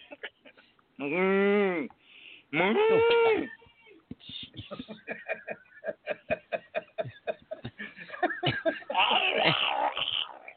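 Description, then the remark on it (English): A person imitates a cow with two loud, strained moos that bend in pitch, then breaks into choppy laughter and chatter with other voices. “Oh no, it's a strangling cow. You sound like you're in pain when you moo.”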